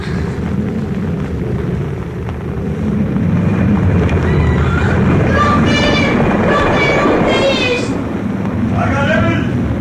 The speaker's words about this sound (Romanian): E cu tremur de pământ.